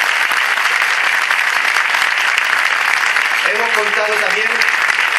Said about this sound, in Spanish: Un fuerte, fuerte, fuerte, fuerte aplauso para ellos.